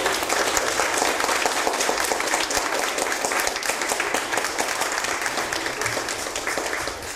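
A crowd applauds steadily for a seafarer being awarded a medal, dense overlapping claps forming a continuous wash of sound that holds for several seconds and tapers only slightly near the end.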